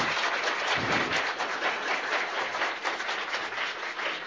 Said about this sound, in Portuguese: Certo, pessoal? Conferido. Salva de palmas. Foi eleito.